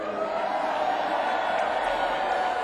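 An audience breaks into steady applause, a dense wash of many hands clapping at an even, loud level for a few seconds with no voices standing out.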